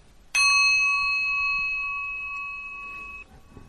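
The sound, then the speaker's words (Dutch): A single meditation bell is struck once during mantra recitation, giving a bright, clear ring with shimmering overtones that sustains and slowly fades over about three seconds before cutting off. “21 keer samen, dan sla ik met de bel en reciteer jezelf verder totdat je dit ongeveer 100 keer gedaan hebt.”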